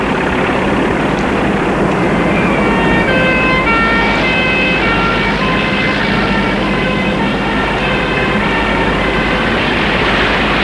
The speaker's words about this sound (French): Puis, un jour, on encercle le quartier de camions. Ambulance.